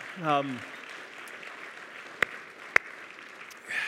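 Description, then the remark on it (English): An audience applauds students and teachers for finishing the school year, a steady wash of clapping, with a rising cheer from one voice at the start and a couple of sharp, louder claps standing out near the end. “And so we can give our kids and our students, especially our elementary and high school students, like let's give them a round of applause for finishing, and for our teachers for finishing.”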